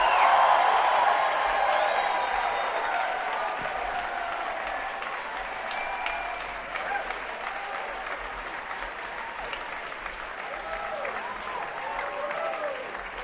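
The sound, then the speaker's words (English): Sustained audience applause at a concert for a musician, a dense steady clatter of many hands clapping that starts strong and tapers slightly, with scattered whoops and faint crowd voices mixed in. “And how about a nice round of applause for the great ….”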